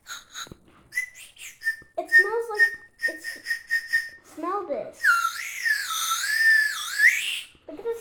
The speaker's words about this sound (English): I am here with my son, and we are going to play with Chupa Chups Whistle Pops for the first time.